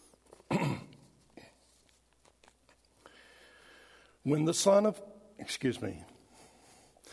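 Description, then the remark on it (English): A person clears their throat before a gospel reading: a short rasp, a quiet pause, then a longer, harsher clearing followed by one more gruff burst. “I had to clear my throat.”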